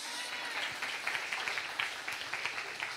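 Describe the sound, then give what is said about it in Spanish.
A crowd applauds steadily, a dense wash of many hands clapping at once with a few sharper claps standing out, fairly soft throughout. “La gloria, honra, y al final tengo el aplauso más grande que usted oye.”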